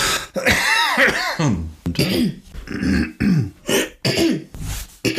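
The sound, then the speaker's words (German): A person clears their throat several times in a row while ChatGPT searches the internet, fairly loud, with rough, rasping bursts separated by short pauses and some voiced, grumbling tones in between. “Kann ich mich mal räuspern, während ChatGPT sucht?”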